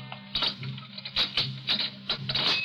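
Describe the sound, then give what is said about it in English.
Footsteps in a corridor of a city jail in the early morning: a run of sharp, clicking steps in an uneven rhythm over a low steady hum, with no one speaking. “Suddenly, he hears footsteps in the corridor and springs to his feet, every nerve alert.”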